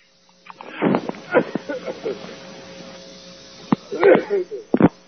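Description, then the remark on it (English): A few sharp, forceful sneezes burst out in turn, each a sudden breathy blast with a voiced edge, separated by quiet gaps and small sniffs over a faint steady hum. “Pardon me, I have to sneeze here.”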